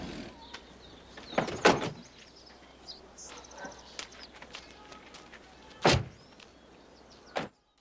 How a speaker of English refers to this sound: Wilson opens the sliding door and they go inside.